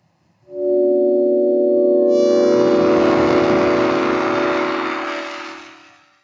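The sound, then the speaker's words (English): A sonified odor signal from a decomposing pig, converted to sound by a device called the Labrador with 12 sensors, each modulated at a different frequency: a sustained, loud synthetic drone of stacked steady tones, joined after two seconds by a dense, bright wash of higher harmonics, then fading out near the end. “And now the pig.”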